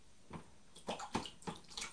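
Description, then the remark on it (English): Water sloshes and splashes in a bath in a few quick, irregular bursts, moderately loud, getting water everywhere, with no voices. “Gently, gently, getting water everywhere.”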